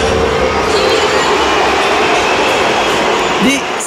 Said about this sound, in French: Des sifflets pour Kylian Mbappé.